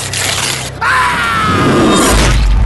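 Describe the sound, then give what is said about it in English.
Robespierre's harsh, strained, wordless scream of pain rings out over a noisy rush, then a weighted guillotine blade drops with a heavy low thud that abruptly cuts the cry off. “And that Robespierre's final wordless scream of pain was cut off with his head by the fall of the weighted blade.”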